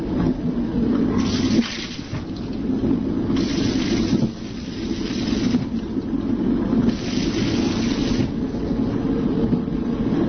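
A train toilet flushing: loud surges of rushing water and air come in several waves over a constant low mechanical rumble, with no voices.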